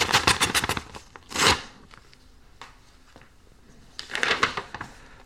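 Paper is ripped open in three bursts of harsh, crackly tearing: a rapid series of rips, a short sharp tear, then another stretch of tearing after a quiet pause, like an envelope being torn open.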